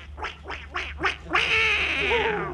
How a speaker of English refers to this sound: I was just winding up one of the ducks.